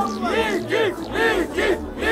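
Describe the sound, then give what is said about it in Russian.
A crowd yelling and cheering loudly, many voices rising and falling together in rhythmic whoops roughly twice a second, with no clear words. “Дайте шума!”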